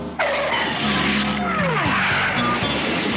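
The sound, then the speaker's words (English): Loud, sustained screech of car tires skidding as brakes lock up, with sweeping squealing tones over a rumbling engine, lasting about three seconds. “Brakes? You want brakes? How's this?”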